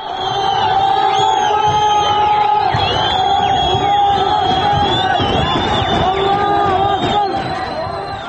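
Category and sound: crowd, crowd of protesters shouting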